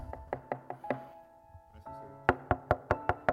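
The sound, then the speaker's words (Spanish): Two bursts of rapid knocking on a door, several sharp raps in a row, a short pause with a faint murmur, then another louder, insistent series of knocks. “tocándole la puerta y le quieren hablar de otra religión?”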